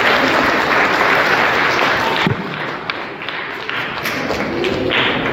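Loud, dense audience applause for a participant fills the whole stretch, with many hands clapping at once; it dips slightly partway through, then swells again and carries on steadily.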